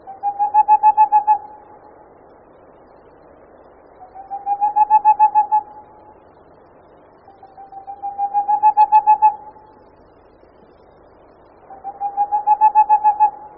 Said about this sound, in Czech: Cíc rousný je malá sova s opeřenýma nohama, kontrastně zbarveným závojem a černě lemovanýma očima